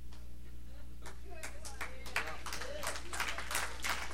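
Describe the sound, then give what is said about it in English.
Scattered clapping from an audience at a sermon builds into uneven applause, with brief voices and murmurs mixed in over a steady low hum. “You'd really clap if you knew I was about to finish my sermon and go on vacation.”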